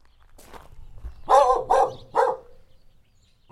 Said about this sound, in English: their Palomino-coated dog named DOG seems a bit suspicious of my microphone. She just showed up one day and I don't know, we're suckers for puppies, so she's staying.